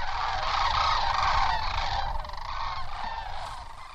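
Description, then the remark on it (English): A dense chorus of loud, overlapping calls from a huge flock of sandhill cranes, each bird 4 feet tall, touching down at a wildlife preserve near the San Joaquin River, continuous and busy throughout, with no voices present. “A huge flock of sandhill cranes, each bird 4 feet tall, is touching down at a wildlife preserve near the San Joaquin River.”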